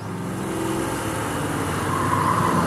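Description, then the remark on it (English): A van's engine rumbles in a steady, low drone as it almost drives into a car, swelling slightly louder toward the end, with a faint whine rising over the noise. No one speaks. “That van almost drove right into her car.”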